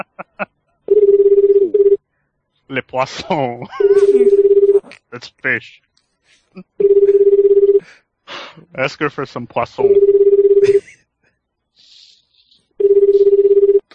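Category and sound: signal or alarm, telephone ringing unanswered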